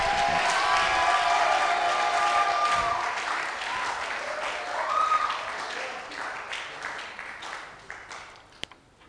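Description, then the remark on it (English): An audience bursts into sustained applause mixed with loud shouts and cheering, the dense clapping holding steady before gradually thinning toward the end. “If that is your confession, then let your shout be resounding.”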